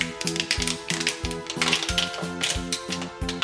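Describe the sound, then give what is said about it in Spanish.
A voice imitates a car reversing into a parking space and backing into an Italika motorcycle made mostly of plastic. It produces a steady run of about eight rhythmic, clattering pulses with a low humming tone, moderately loud and with no other talk. “En eso está haciendo marcha atrás y se siente una especie de sonido así.”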